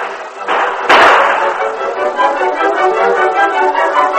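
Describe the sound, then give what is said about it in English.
A single sharp gunshot cracks out outside just under a second in, set against a steady wash of dense, noisy commotion that continues throughout with no speech. “The gunfire outside lasted but a few minutes.”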